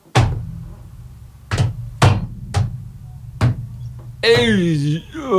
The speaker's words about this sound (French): On va retourner vers cette capsule qui nous attend. Attention capitaine, il faut ouvrir la porte pour rentrer.